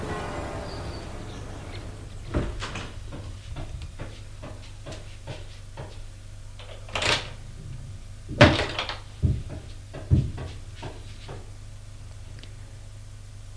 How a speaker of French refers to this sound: On frappe à la porte.